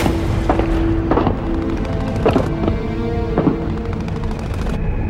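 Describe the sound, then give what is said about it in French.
Several sharp, irregular gunshot bursts crack over a loud, steady low rumble, with ringing tones between the shots and no voices, as armed men from seven cars fire into a crowd of demonstrators on Florida Street; the shooting lasted 88 seconds. “La fusillade a duré 88 secondes.”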